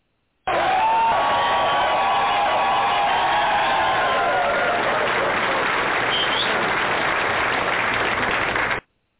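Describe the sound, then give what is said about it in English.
A loud crowd cheers and applauds steadily for about eight seconds, with whistles and whoops rising over the clapping early on before it cuts off abruptly, at the opening of the Disrespected Trucker Radio Show. “Listen to that applause, ladies and gentlemen.”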